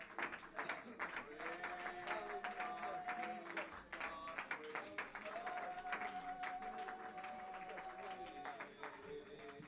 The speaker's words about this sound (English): Clap your hands before you're seated to God.